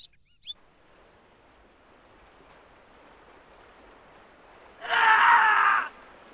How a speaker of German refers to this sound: Wer schreit da? Einer von den Tauchern. Er ist zu lange unten geblieben. Und? Er stirbt.